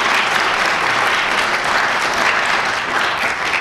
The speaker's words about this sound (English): Again, a round of applause for our sponsors and supporters.